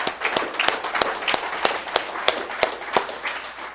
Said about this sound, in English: How about some applause for those courageous men as well?